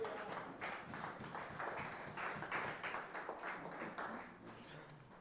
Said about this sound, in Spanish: Démosle un aplauso al que vive.